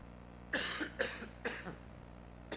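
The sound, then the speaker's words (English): A loud series of three harsh coughs in quick succession, followed after a pause by one short, quieter cough, with no talking. “Anybody got a cough drop?”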